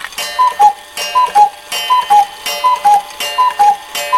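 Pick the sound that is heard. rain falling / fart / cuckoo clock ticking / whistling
cuckoo clock ticking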